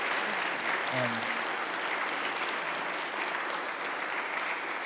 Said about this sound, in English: So yeah, you can clap. There you go. Start it off. There we go.